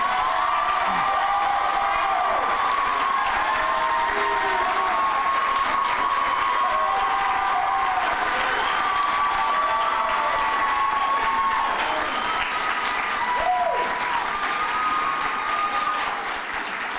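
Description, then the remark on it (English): A crowd at a political debate with Rand Paul applauds loudly and steadily for about seventeen seconds after a closing statement, with scattered cheers and whoops rising above the dense clapping, which tapers only slightly toward the end. “Now you can applaud.”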